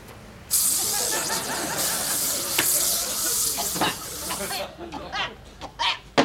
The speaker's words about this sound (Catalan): En David treu d'un calaix una mascareta, se la posa, agafa un parell d'ambientadors en esprai i ruixa frenèticament la sala.